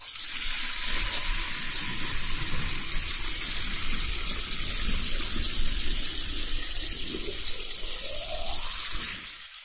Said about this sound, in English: Instead, she filled the jug with water.